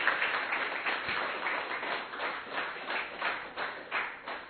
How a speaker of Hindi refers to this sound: इसलिए हम सभी मेहमानों के लिए और आप सबके लिए भी अंत में तालियां बजा के सबका आभार व्यक्त करेंगे।